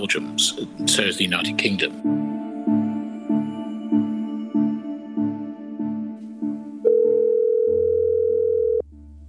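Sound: telephone ringing tone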